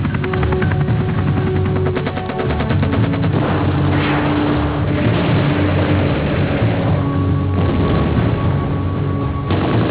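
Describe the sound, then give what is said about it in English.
Loud, rapid bursts of gunfire crackle over a thick, constant roar of helicopter engines and rotors as helicopters carry South Vietnamese troops into a combat zone, the shots blurring into dense, chaotic volleys with no voices heard. “There was fire from everywhere.”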